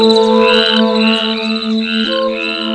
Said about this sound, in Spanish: El grillo.